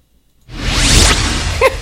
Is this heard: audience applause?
no